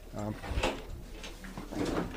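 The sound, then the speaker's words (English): A portable toilet door bangs shut once with a short, hollow clunk, set among muffled talking voices. “All right, we're inside the porta potty now.”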